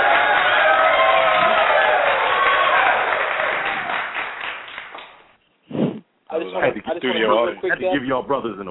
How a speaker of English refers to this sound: I had to give y'all brothers an applause.